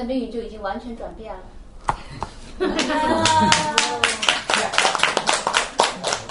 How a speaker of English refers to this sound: But as soon as you clap one time in the kirtan, your fortune is completely transformed.